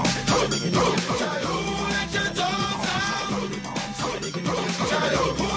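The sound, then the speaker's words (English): An upbeat dance track plays loud and full, with a driving beat and punchy percussion, while a chorus of woofing barks cuts in rhythmically over the music. “This is the best dance song”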